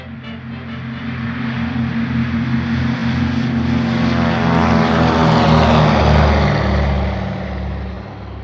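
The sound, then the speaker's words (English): A propeller airplane's engine drones loudly and steadily at the Shelbyville, Tennessee airport, its low harmonic hum swelling slightly in the middle before easing off, with no voices. “Come along and join me at the Shelbyville, Tennessee Airport”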